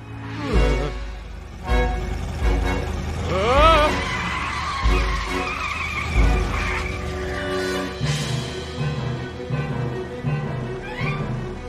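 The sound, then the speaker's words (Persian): A car's tires screech in a long, high-pitched skid lasting several seconds as the car is brought to a stop, over rumbling engine noise, with people's voices cutting in around it. “ایست، ماشین رو متوقف کن.”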